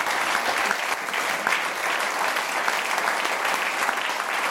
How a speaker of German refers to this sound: Und ich bitte Sie auf die Bühne. Herzlichen Beifall für meine Co-Moderatorin, Moderatorin und Leitmoderatorin heute.